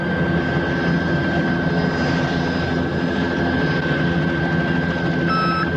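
A warning alarm beeps inside a patrol helicopter flying over a desert as a warning light is triggered, its tones cutting in near the end over the loud, steady roar of the engine and rotors. No one speaks.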